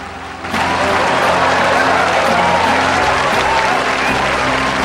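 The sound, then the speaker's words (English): Applause from a large crowd in an auditorium for Mo's speech swells sharply after a quieter start as everyone stands one by one, then holds as a loud, dense, steady wash of clapping with faint murmurs underneath. “The applause grows, and one by one, everyone in the auditorium stands.”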